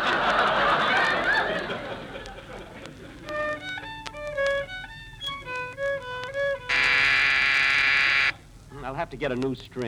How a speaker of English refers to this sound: That was a door buzzer.